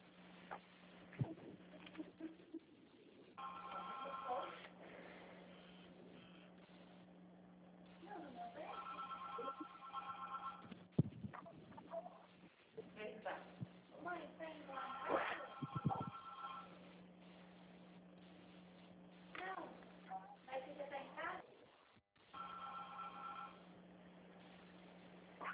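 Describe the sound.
A telephone rings in four trilling bursts spaced a few seconds apart, bright and fairly loud over a steady low hum, with muffled voices and small handling noises between the rings.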